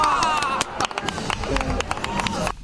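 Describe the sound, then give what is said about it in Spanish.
A burst of audience applause, many hands clapping in a dense, irregular patter that holds steady for a few seconds, with voices calling out over it before it thins at the end. “Un aplauso, ¿no?, para ella.”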